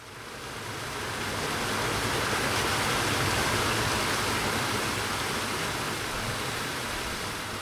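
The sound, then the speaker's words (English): Steady, dense rush of the River Don pouring through a nearby lock at Bentley Town End, Doncaster, UK, a loud continuous roar that swells in over the first second and holds unbroken, with no voices. “And that's what the river sounds like at the nearby lock.”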